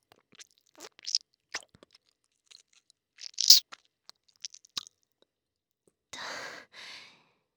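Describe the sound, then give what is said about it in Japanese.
Wet mouth sounds with irregular smacking and chewing clicks as someone chews semen, fairly quiet, followed by two soft breathy exhales near the end. No talking. “彼のべっとりと生臭いザーメンを咀嚼すると、それだけで気持ちよくなって”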